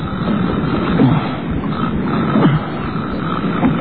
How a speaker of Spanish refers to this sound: Y sentí cantar el pescado, roncar.